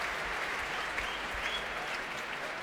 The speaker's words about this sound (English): That's the applause for tonight's leader of the orchestra. And here he comes, Stephen Bryant, to lead the orchestra, which is at the heart of this great festival.